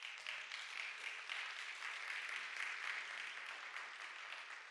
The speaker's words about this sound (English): And now it is going to move to shut down the sit-go. Y'all can clap for that.